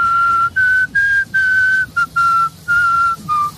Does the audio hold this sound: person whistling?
yes